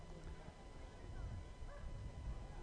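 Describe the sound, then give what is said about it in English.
A single dog barks a few times at a baseball game at Clover Park, its yaps faint against a steady wash of outdoor crowd noise and murmuring voices. “And I hear one dog barking.”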